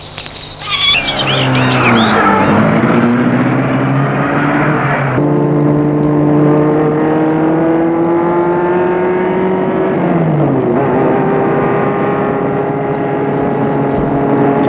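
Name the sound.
car engine driving away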